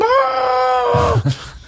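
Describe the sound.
A single loud, drawn-out panicked scream, wavering and high-pitched, holds for about a second before cutting off into a few low, muffled thuds.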